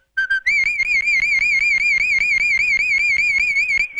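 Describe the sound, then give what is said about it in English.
A loud, high human whistle played as a fanfare: a few quick opening notes, then one long sustained tone with a fast, even warble, pure and almost electronic in timbre, with no talking. “Can you whistle a fanfare for us?”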